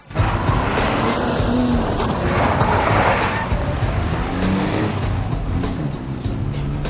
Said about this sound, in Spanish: Bomber y Kevin llegan en coche.